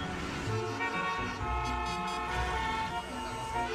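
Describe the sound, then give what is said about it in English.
Several car horns honk over one another in a steady, dense chorus, with the rumble of idling engines underneath, like a gridlocked street full of impatient drivers. No one speaks. “There's a simple reason we hate traffic, because we hate waiting in line.”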